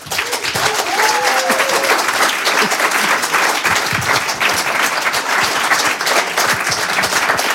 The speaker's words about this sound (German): Bitte begrüßen Sie mit einem kräftigen Applaus.